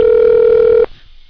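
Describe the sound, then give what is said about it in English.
A loud, steady telephone tone sounds as a phone call is placed to get someone on the line, holding for under a second before cutting off abruptly into quiet background hiss. No one speaks. “let me fire a buddy phone and see if we can get Matrix on the line”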